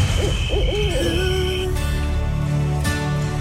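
Wavering, hooting calls like an owl's swoop up and down early on, then give way to steady sustained tones over a dense, continuous musical backdrop. No one speaks.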